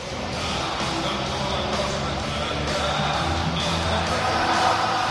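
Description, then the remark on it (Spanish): A large stadium crowd sings the Espanyol football club anthem together, a loud, continuous roar of massed voices with a faint melodic line, joined by shouts and whoops throughout. “Y así suena el himno del español. ¿Lo escuchamos?”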